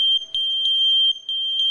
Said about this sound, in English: Introducing the Kidde Wireless Smoke Alarm System, using wireless technology to link smoke alarms together so that when one sounds, they all sound.